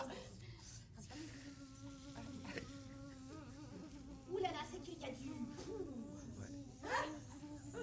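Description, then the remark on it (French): A steady, mosquito-like buzzing drone runs through the whole recording, fairly loud, with its pitch wavering slightly while people talk and exclaim over it. “Ah là, tu fais moustique.”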